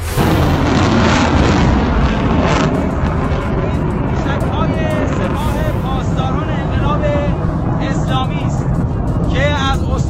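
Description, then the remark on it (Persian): A sustained, loud roaring rumble of a missile launch from Kermanshah, fired toward targets in Deir ez-Zor province, Syria, with dense low-end noise filling the whole stretch and faint chirping sounds rising above it near the end. “کرمانشاه به سمت فرماندهان تروریست های تکبیری در استان دیرالزور سوریه شلیک میشه.”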